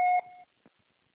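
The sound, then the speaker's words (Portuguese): A single loud electronic beep tone from a phone voicemail system, steady and pure, lasting about half a second before cutting off, followed by a faint click and then silence, signaling that recording of a message has started and charges apply. “Será sujeita a cobrança após o sinal. Após o sinal, narre sua mensagem.”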